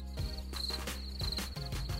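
sound effect, cricket chirping sound effect

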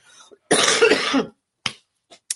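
human body sound, coughing and throat clearing

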